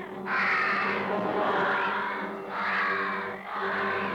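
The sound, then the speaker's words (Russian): Crows caw in loud, harsh, raspy bursts as they swoop down on caterpillars, three drawn-out calls following one another with brief gaps, with no talking. “В этот миг послышалось чье-то мерзкое карканье.”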